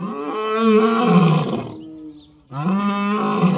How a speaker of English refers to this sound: African lions carol to each other this cold, sunny afternoon, claiming their stake on Turpentine Creek Wildlife Refuge. They share their quarters with 117 tigers, cougars, leopards, and bobcats.